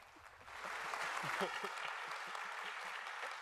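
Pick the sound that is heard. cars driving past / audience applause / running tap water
audience applause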